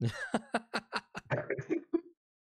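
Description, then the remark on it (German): A fit of coughing from a person who has been out in the rain several times that day: about nine quick, raspy bursts in a steady run lasting roughly two seconds, then silence. No one speaks. “Entschuldigung, Leute, wenn ich ab und zu mal huste, das ist der Regen.”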